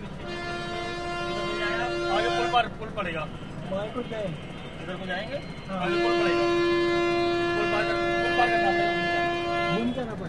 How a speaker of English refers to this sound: So that's the fourth time we've stopped looking for directions, and it was a little bit more complicated this time because there was a huge bus behind us, which you probably heard honking its horn in a somewhat unfriendly manner.